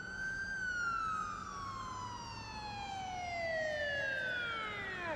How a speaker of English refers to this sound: and you glance out at just as these cop cars come roaring past you, come around the block, and you can like hear the tone shift as they go into that underground parking garage.